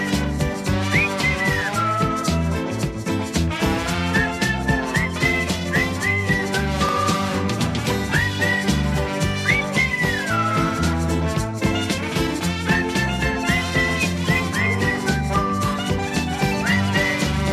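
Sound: human whistling a melody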